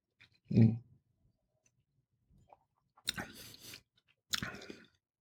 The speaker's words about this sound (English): Got it chewed up really good, right? Really well.